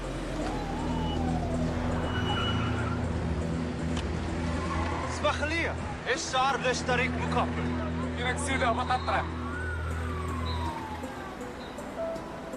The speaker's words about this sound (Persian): ماشینشون همین الان از جلوی من گذشت، داره میاد به سمت شما.